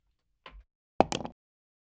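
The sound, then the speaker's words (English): A soft thud, then a sharp clack as dice hit a hard table and skitter through a few quick rattling bounces before stopping, the roll coming up a natural 20. Fairly quiet, with no talking. “I'll try this dice.”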